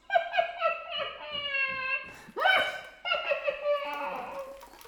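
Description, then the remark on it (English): A flute plays bursts of bright, breathy notes in quick, bouncing runs that mimic a person's laughter, with chuckling pulses and rising squeals, clear with no speech. “Or the laughing flute.”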